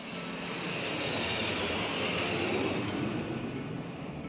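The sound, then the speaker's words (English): A low-flying jumbo jet roars overhead down the Hudson River along the west side of Manhattan around 8:45 a.m., traveling nearly 500 miles per hour, a loud, steady wash of engine noise with a high whining edge that holds without a break for a few seconds. No one speaks. “Around 8:45 a.m., the people along the west side of Manhattan heard a piercing whine of a jumbo jet making its way down the Hudson River.”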